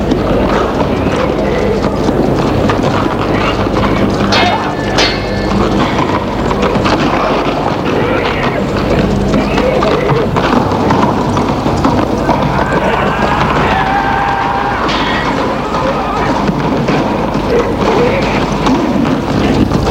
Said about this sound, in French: Devant tout ça, j'entendais le galop des chevaux.